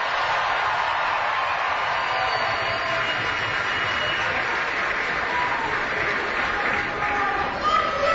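Sustained applause from a large arena crowd at a Chicago Blackhawks event, applauding Jimmy Cornelison, a dense steady roar of clapping and cheering that holds loud and even throughout, with a brief swell near the end.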